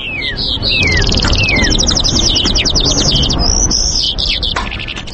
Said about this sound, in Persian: جل پرنده سیارنگ و خوشصدا است که دارای بالهای سفید می باشد. این پرنده انواع مختلف دارد.